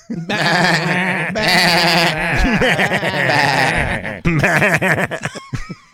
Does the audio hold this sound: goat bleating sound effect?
yes